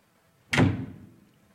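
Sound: door being shut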